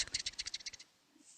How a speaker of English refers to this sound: Can you actually hear the sound of me like scratching on the paper? That's hilarious. It's very mesmerizing. It's yes, this is my meditation.